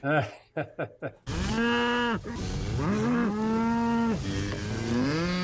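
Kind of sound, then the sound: animal, cows mooing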